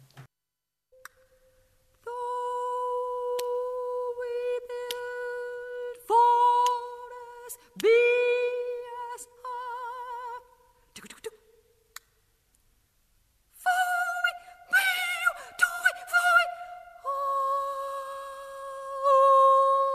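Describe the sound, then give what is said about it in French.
A lone female voice performs a score by composer Luciano Berio in the 'new vocality' style, singing held high notes that break off abruptly, with swooping glides, clicks and breathy, noisy bursts between phrases, sounding fragmented and theatrical rather than like a continuous melody. “Voilà, où la voix ne fait pas que chanter, mais elle annonce, elle parle, elle crie, elle rit, elle chuchote, elle bégaye, et voilà, elle se plaint, elle gêne.”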